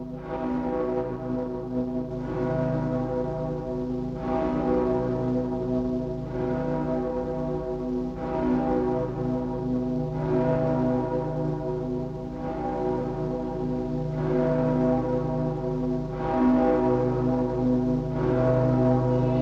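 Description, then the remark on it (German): Deep church bells of Breslau ring continuously, their strokes falling in a steady rhythm about every two seconds over a loud, sustained humming drone of overlapping low tones. No voices are heard. “Glocken von Breslau mahnen an die Vergänglichkeit alles Irdischen und daran, dass wir Menschen eine bleibende Heimat nur im Ewigen haben.”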